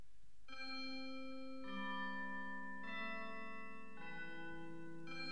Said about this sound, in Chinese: 小朋友，你听，这是什么钟声啊？啊，是圣诞钟声